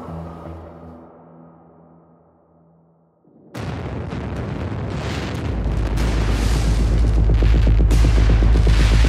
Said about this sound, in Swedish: I stadsdelen Chinatown exploderar en fyrverkerifabrik.